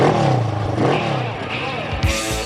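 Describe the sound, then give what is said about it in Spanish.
A motorcycle engine revs loudly, its pitch climbing and dipping through several throttle blips before a sharp, throaty burst near the end. “¿Te apasiona el mundo de las motos?”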